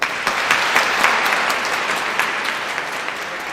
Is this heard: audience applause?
yes